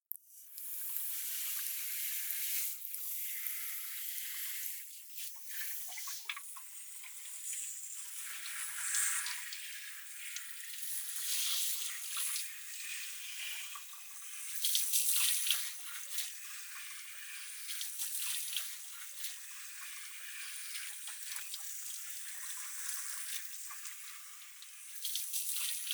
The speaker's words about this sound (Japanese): さーって、そろそろ汚れ落ちたっぽいね。じゃあシャワーで泡流すから。